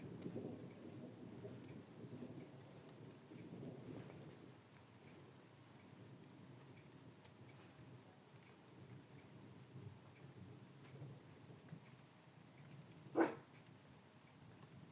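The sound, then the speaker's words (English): Thunder from a passing storm rolls low and deep, far off, through a steady patter of rain, fading in and out, with one sharp tap near the end and no voices. “It's still rumbling around out there, so I'll leave it a bit longer.”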